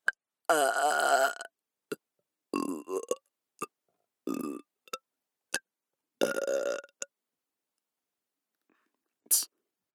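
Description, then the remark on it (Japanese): Several loud burps, some long and croaking, others short, come in an irregular series with brief clicking and breathy noises between them and quiet gaps. “なんでよりによってゲップなんだよ。”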